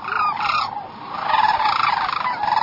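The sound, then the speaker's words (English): A chorus of loud, rolling sandhill crane calls overlapping continuously, several birds trumpeting and rattling back and forth, birds aloft calling to birds in a slough answering, at the east end of the Copper River Delta. “The birds aloft chattered to the birds in the slough, the birds in the slough answering excitedly”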